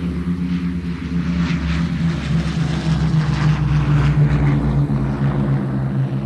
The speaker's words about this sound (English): Three planes were to take off and you'll be advised on the time of return. I heard the first plane take off. Then the second plane took off.